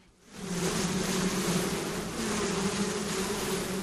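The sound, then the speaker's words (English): A dense, steady drone of many honeybees buzzing together around an open hive being checked by beekeepers on a hot, overcast day with a stiff breeze, fading in quickly and then holding loud with a layered hum and no voices. “It wasn't the best day to check on bees.”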